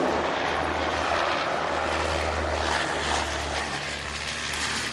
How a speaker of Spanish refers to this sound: Los aviones sobrevuelan la zona pero no abren fuego.